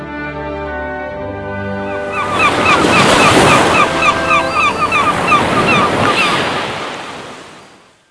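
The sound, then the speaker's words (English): Ocean waves surge and crash loudly in a broad, rushing roar that swells after a couple of seconds, churns steadily, then slowly fades out, with some wind noise mixed in. “Of this boat of men under the crashing waves,”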